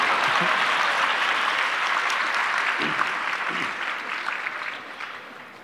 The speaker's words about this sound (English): Much louder, please. Thank you. Please clap for yourself.